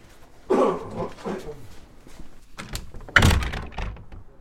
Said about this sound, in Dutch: Deurtjes moeten even opengemaakt worden.